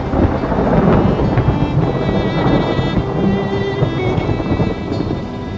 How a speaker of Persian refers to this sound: میبینی که بارون شدیدتر از قبل.